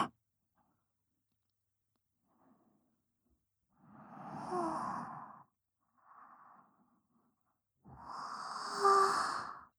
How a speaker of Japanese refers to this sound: すみません。ご主人様にあくびを聞かせてしまうなんて。